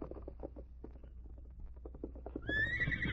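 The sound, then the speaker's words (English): Steady, rhythmic hoofbeats clop along for a few seconds as the horse Scout arrives at a shack in the foothills, then it lets out a loud, high whinny near the end as it is tied to a sapling, clear with no one talking. “I'll tie his horse to that sapling.”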